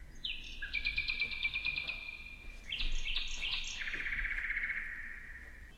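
A nightingale sings alone and clear, with sustained whistled notes and rapid trilling phrases that shift in pitch across several seconds over a faint background hiss.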